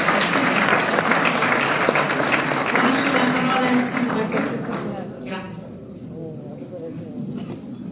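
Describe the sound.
A crowd applauds with dense, steady clapping for about four seconds, then the clapping thins and fades as a man's voice starts speaking.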